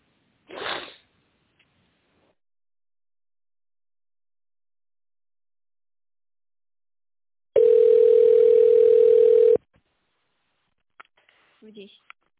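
A steady, loud telephone tone holds one mid pitch for about two seconds after a call to the company AO GEF Teplostroyproekt dropped while being transferred, with a short breathy burst earlier and a few faint clicks afterward.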